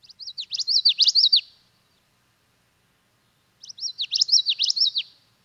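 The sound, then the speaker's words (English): A common yellowthroat, a sparrow-sized bird with a yellow throat, brown back and black mask, sings twice, each phrase a quick run of repeated bright, rolling notes building in loudness, with a long silent gap between the two songs. Clear, no talking. “I was out walking in the Wabisa wetlands yesterday, and I heard a common yellowthroat. So we're going to play the common yellowthroat for me”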